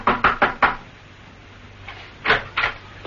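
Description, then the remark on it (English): Four quick, firm knocks on a wooden door, followed after a pause by two or three more raps. No voices, just hollow thuds against quiet. “he approached a door which read, The QQF Inc. Knock and enter. Steed did so.”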